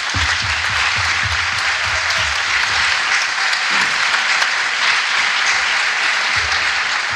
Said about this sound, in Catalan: Així que un aplaudiment per vosaltres.